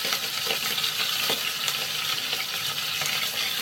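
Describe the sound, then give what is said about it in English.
Steady, loud sizzling of meat browning in hot oil in a pan, a dense crackling hiss that holds evenly throughout with small pops scattered across it and no voices. “So here we go. We're going to start with this. Get this in the oil.”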